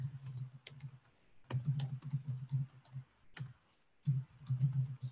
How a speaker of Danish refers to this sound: Og linket, det er fuldstændig på samme måde som de andre links. Du taster bare ind her.